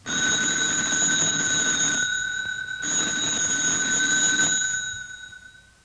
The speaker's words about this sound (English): You knew that was a telephone, didn't you? You should have circled the telephone.